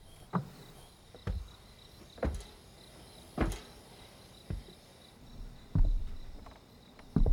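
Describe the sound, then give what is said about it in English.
Slow, heavy footsteps of a man thud across wooden porch planks above someone hiding beneath the porch, about eight steps at an unhurried, even pace, while crickets chirp steadily in the background. “Killer walks across the porch right above Maddie's head.”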